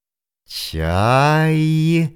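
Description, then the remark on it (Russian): A human voice imitates a gull: a short breathy onset, then one sustained, slightly rising cry lasting about a second and a half, fairly loud and alone. “Чайка.”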